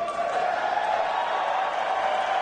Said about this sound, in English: This is a great big crowd of Ron Paul supporters.